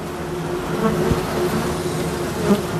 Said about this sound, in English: There will be bees all over the place, so we just do this very slowly and gently just so they don't get annoyed with me and decide to give me an attitude adjustment. Here we go here, you can see there's bees all over the place.